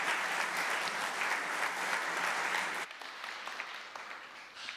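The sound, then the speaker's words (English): An audience claps steadily for two young girls in a dense, continuous wash of applause that drops to a thinner, quieter patter for the last couple of seconds. “Shall we give these young girls a round of applause?”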